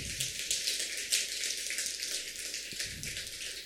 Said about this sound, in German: Mal Applaus, kommt mal los.